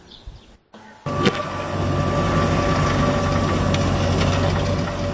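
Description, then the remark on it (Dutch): A large John Deere tractor sowing maize in a field runs with a steady, loud mechanical drone and a constant low hum, after a brief cut near the start. No voices. “Toen ik van de week naar huis reed, toen zag ik een hele grote John Deere trekker die mais aan het zaaien was.”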